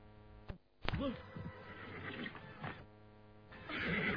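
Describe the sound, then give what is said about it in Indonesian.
A horse lets out a single wavering whinny, loud, over a steady background hum and scattered rustling noises. “Kau larikan kuda ini. Tentu saja ke Keraton Sunda. Berhenti tuh.”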